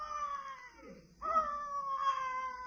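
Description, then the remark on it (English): A baby boy, one of the twins in the Great Gildersleeve's house, cries early in the morning in two long, wavering wails with a brief catch of breath between them. The cry is loud, steady and husky, with no talking over it. “It must be the boy. Sounds like a baritone.”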